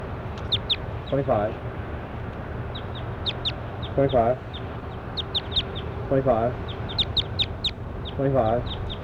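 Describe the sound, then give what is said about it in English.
A recorded bird call played back: a bird gives four loud bursts of rapid, nasal, stuttering calls about two seconds apart, while thin high chirps flicker throughout over a steady low rumble. “26 and 25 is going really loud, so I'm going to 25 now.”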